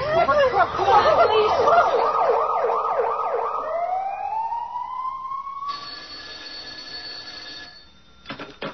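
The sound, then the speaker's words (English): A loud ambulance siren, called for a woman hit in a car accident, warbles rapidly, then slides upward into a long rising wail before giving way to a steady electronic tone and a few faint clicks at the end. “My gosh, she's been hit. Call the ambulance.”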